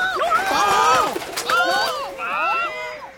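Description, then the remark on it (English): A flurry of bright, warbling bird calls as some birds fly away, several overlapping chirps rising and falling across about three seconds, fairly loud, with a brief pause midway before the calling resumes. “The scarecrow puts on the jumper and the gloves, and some birds fly away.”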